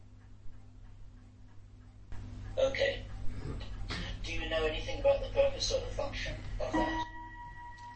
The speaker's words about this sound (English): Clock. We'll just let that clock chime.